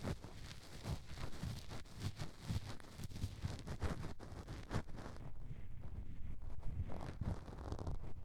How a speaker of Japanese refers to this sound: 個人的にゴリゴリ言う音が好きなので、ゴリゴリの強いやつを目指しました。なんだかんだ試した結果、コルクを引っかく音にたどり着きました。私的にちょうどいいゴリゴリ音です。